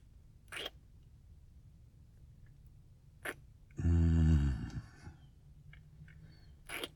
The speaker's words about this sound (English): Okay, don't move while I use these scissors. I really don't want to slip and cut you.